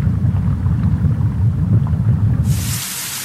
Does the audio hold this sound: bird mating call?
no